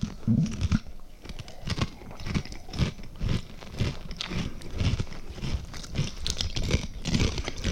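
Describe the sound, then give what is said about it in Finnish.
Loud, rapid crunching of potato chips being chewed into a microphone, a steady run of crisp, crackly bites with no speech over them. “Onko tähän ok rouskuttaa tätä tähän mikkiin?”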